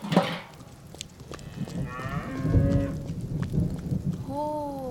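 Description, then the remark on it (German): A cow called Kühli, getting wet in the rain, lets out several drawn-out, low moos with rising and falling harmonics, the last one higher and wavering, over a rumbling, rainy-sounding background with occasional clicks. “Oh, komm, Kühli.”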